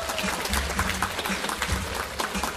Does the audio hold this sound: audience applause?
yes